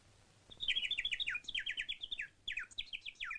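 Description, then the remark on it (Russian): A sparrow chirps in a rapid, steady run of bright, high notes, clear, with one brief pause before the chirping resumes. No voices are heard. “«Что-что?» – спрашивала его воробьиха мама.”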